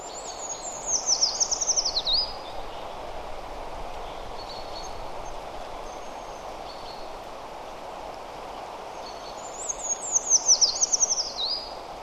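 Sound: birds singing outdoors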